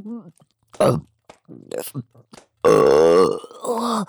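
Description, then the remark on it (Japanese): A few soft, breathy mouth noises and short vocal sounds, then a long, loud, croaking burp that rumbles for nearly a second before a brief voiced trail-off. “もう、また出る。ゲップが出ちゃう。”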